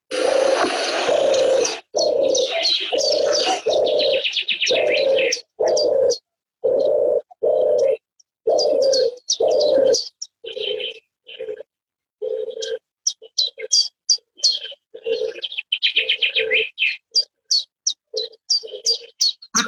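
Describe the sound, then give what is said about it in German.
A European turtle dove purrs in repeated low, rolling coos, steady and rhythmic, while a loud chiffchaff sings bright, quick chirping phrases over it and other small birds twitter in the background. “Ich möchte sie jetzt einmal anspielen, ja. Die Turteltaube. Hier kommt sie.”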